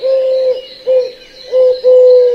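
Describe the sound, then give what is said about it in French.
Pigeons coo in four low, steady, droning calls, one short and the others longer, fairly loud, with no talking. “D'ailleurs, il me fait penser qu'il me reste un peu de vieux pain pour les pigeons.”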